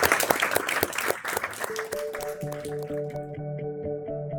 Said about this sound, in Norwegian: Ja. Klapp for dere!